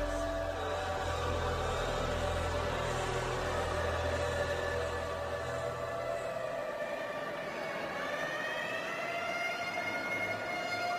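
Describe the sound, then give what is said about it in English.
A loud ambulance siren wails continuously with a rising and falling pitch over a low engine rumble that fades partway through, as the ambulance rushes to a clinic in Owerri. No one speaks. “Meanwhile, the ambulance rushed to St. Eunice's Clinic in Owerri.”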